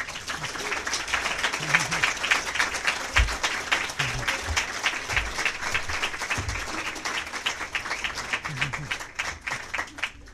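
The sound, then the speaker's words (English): A large audience at an Omaha Press Club debate claps steadily and densely for about ten seconds welcoming the candidates Tom White and Lee Terry, a sustained wash of applause with occasional louder bursts and faint voices mixed in. “We ask that during the debate you refrain from applause, shouts, whistles, etc., but you can do that now in welcoming the candidates, Tom White and Lee Terry.”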